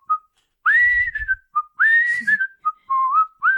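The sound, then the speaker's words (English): A person whistles a short phrase of bright, sliding notes in three close bursts, standing in for an arrow's flight, with a faint low rumble under the first burst and no talking. “The arrow whistles through the air.”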